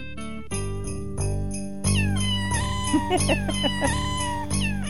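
A bouncy novelty tune built from sampled cat meows, pitched into a melody over a steady synth backing, the meowing notes gliding and repeating loudly with no talking.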